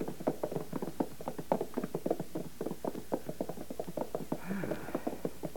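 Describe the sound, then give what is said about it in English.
Horse hooves clip-clop at a quick, steady trot as the ridden horse is urged faster and grows excited, fairly loud, the sharp knocks repeating evenly throughout, with a short higher-pitched sound rising briefly near the end. “Your Majesty, the horse is becoming excited. He may run away with you.”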